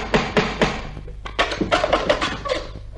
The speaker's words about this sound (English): Was that a knock at the door?